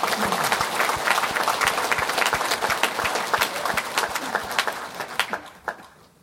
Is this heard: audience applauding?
yes